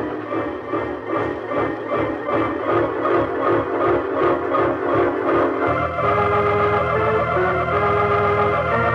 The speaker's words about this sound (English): Here comes the train.